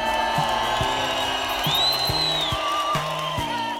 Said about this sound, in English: could we get a wild applause cue?